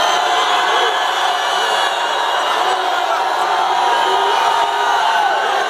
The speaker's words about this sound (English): Stop waiting. Stop waiting. A matter of fact, stop waiting and start shouting right now.